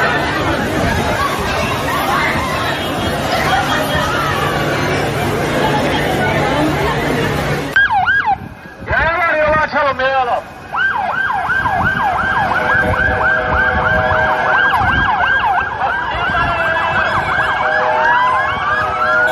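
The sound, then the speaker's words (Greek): Loud, chaotic crowd commotion after a bomb explosion on a bench outside a shop in Istanbul, about 200 metres from the Greek consulate, gives way to emergency vehicle sirens wailing up and down, several overlapping, with shouting voices mixed in. “Και ακολούθησαν σκηνές πανικού.”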